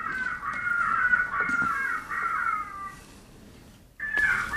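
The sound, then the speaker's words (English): A loud electronic predator call, used to attract coyotes and demonstrated at a Senate hearing, plays shrill, wavering distress cries of prey animals. A raspy squealing wail is held for about three seconds, then a brief gap, then the cries start again. No one speaks. “Or I can change the call. Various animals of prey in distress.”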